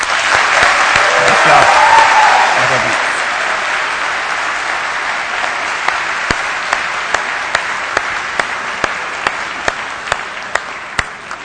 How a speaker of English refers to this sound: You know, I don't recall getting a cheer like that when I walked on stage.